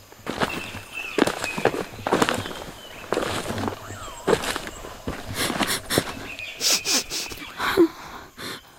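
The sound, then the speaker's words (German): Heavy footsteps stomp across the grass of a meadow with a crunchy, rustling texture as someone walks carrying a broom in hand, the steps uneven, carrying on for several seconds with no voices. “Er hatte es zurück auf die Wiese geschafft und stampfte zusammen mit dem Besen in der Hand zu Lucia.”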